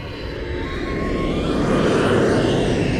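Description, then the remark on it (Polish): An airplane flies past with a steady, broad roar that swells slightly louder over the three seconds, thin whining engine tones gliding above the rumble. No one speaks. “Już doleciałam.”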